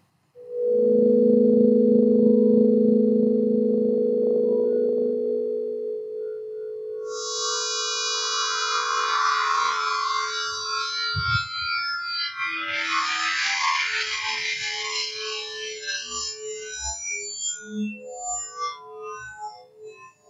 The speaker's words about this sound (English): Yes, Dr. Voss invented a device called the Labrador that can turn odors derived from chemicals found in human decomposition and convert those into sounds. So without further ado, I give you the sound of death in the key of C.